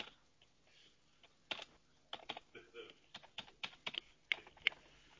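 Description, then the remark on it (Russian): Someone types the password for an electronic signature key on a computer keyboard, a quick irregular run of crisp key clicks with short pauses between bursts, no talking. “Введите пароль, ключ электронной подписи.”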